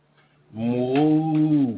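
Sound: cow mooing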